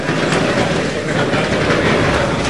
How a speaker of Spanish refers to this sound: Disculpen el ruido, pero es que son los arrastres, para que quede más despejado la zona